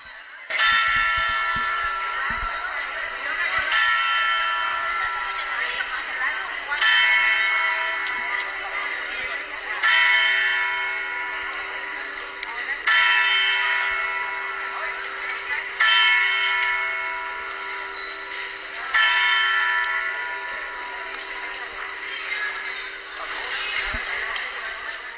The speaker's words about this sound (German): Wir sind hier vor einer Zeitglocke mit Tausenden von Besuchern, Touristen. Wir warten auf das Glockenspiel.